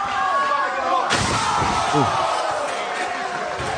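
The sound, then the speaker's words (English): A single loud, sharp slam of a wrestler's head hitting a chair in a hardcore wrestling match, striking about a second in, then a roaring crowd and scattered voices fill the rest. “Let's watch his head hit that. His head hits the chair.”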